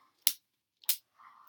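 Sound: whip cracking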